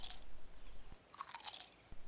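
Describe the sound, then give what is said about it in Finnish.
Crisp, wet crunching as teeth bite into an apple on the stairs, a few juicy snaps and chews with sharp bright crackles, fairly quiet with no talking. “Pian rappusilta kuului vain ääni, kun hampaat pureutuivat omenaan kiinni.”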